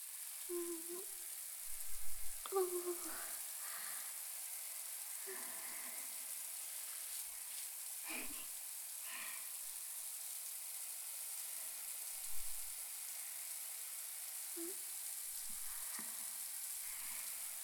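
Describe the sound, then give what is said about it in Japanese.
Shower water sprays in a steady, bright hiss for the whole stretch, with a few soft knocks and splashes scattered underneath and no voices, as a body is lightly rinsed off with the shower. “それでは、軽くシャワーで流していきます。”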